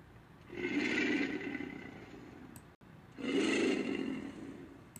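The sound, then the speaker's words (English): Two long, deep guttural growls from an alligator, each a rumbling, throaty, very low-frequency bellow lasting a couple of seconds, separated by a brief pause. Loud, with no voices. “That's an alligator. It's a very low frequency, so it's guttural. It's kind of throaty.”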